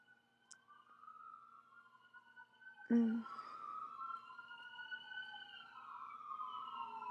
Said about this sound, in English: I can hear the ambulance going by.